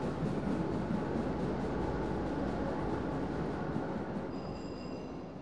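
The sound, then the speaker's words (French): A train rumbles steadily along the rails by a street in Épinay-sur-Seine with a dense, continuous roar and faint rhythmic clatter, and a thin high-pitched wheel squeal rises near the end. No one speaks. “La rue était pavée et les journées étaient bercées par le bruit quotidien du train, comme aujourd'hui, ainsi que le bruit des premières voitures qui roulaient sur les pavés.”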